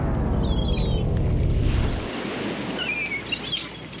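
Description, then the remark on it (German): Steady wash of sea waves with a low rumbling roar that eases after two seconds into softer surf hiss, with faint bird chirps overhead; an open, summery beach atmosphere without voices. “Ohrenblicklich war sie umgeben von Sonne, Meer und dem Alarm des Bordcomputers.”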